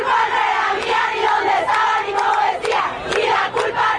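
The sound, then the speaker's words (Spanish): A crowd of about 200 women chants "El violador eres tú" together in a loud, steady rhythm in the international area hallway of the FIL, the shouted phrases rising and falling in unison with sharp accents throughout. “Un grupo de cerca de 200 mujeres acudió al pasillo del área internacional, desde donde interrumpieron el barullo flotante de la FIL al grito de "El violador eres tú".”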